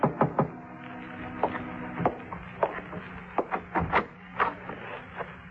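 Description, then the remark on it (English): A series of sharp, irregular knocks on a room door at 7:45, a dozen or so raps spread unevenly across the stretch, heard over a low steady hum with no one speaking. “At 7:45, there was a knock on my door.”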